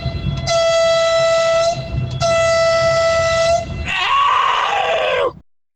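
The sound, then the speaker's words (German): Two long, loud horn blasts with a steady harmonic tone, like a train horn, followed by a shorter, shriller honk that wavers in pitch before cutting off, played as a sound effect. No one speaks. “Das ging mir exakt genauso, deswegen kannst du hupeln.”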